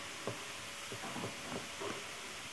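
A vacuum cleaner drones at a low, steady level, its broad whooshing hiss unbroken throughout, with a few faint soft knocks here and there and no voices.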